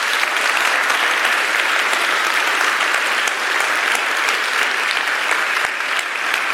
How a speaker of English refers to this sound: But if you would like them and to welcome them into official membership of the Whole Life Church, would you give a big round of applause?